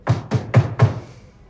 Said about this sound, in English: The bag topples off its mounting.